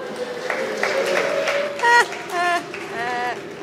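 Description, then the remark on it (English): At an in-person marathon reading of a Herman Melville classic, an audience breaks into scattered clapping, with a few whoops and voiced cheers rising over a steady hum of crowd noise. The applause stays moderate and uneven rather than building into a roar. “Some of the diehards were like, wait a minute, people aren't supposed to be clapping.”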